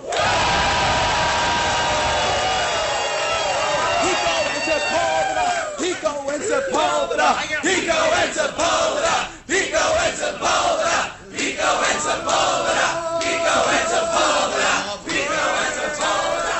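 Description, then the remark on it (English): A large crowd at MarsCon, a science fiction fan convention in Minneapolis, roars and cheers continuously, with shouted voices, whoops and high-pitched yells rising over a dense wall of noise, holding loud and steady throughout. “Now, that was a crowd at a science fiction fan convention in Minneapolis called MarsCon.”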